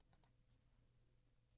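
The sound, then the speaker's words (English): A pen scratches across paper in a few short, quiet strokes as a letter is written at a desk, with one slightly sharper scrape near the end and no voices. “Finally, I sit down at my desk and begin to write.”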